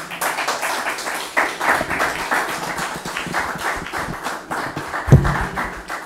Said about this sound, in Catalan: Aplaudim a Joan Creixells, aquí el testimoni de les seves ulleres.